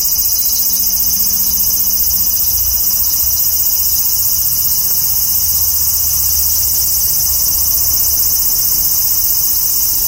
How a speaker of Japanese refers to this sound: まあ、それにしても暑いですわ。セミの鳴いてる真下にいると、もう嫌が上にも暑いですね。